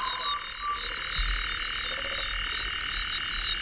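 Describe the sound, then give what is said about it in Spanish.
A dense night chorus of frogs and insects drones steadily, with a toad's croaking and the repeated calls of an African crake mixed into the background; no one speaks. “Un sapo, ¿eh? También hay sapos. Sí, y una polluela africana.”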